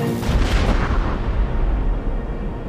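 sound effect, cannon firing

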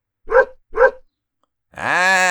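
animal, dog barking

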